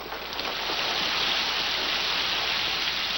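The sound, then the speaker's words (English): Steady rain pours down in a dense, continuous hiss, fairly loud, with no voices or other sounds breaking through. “Raindrops splatter on his face and suit.”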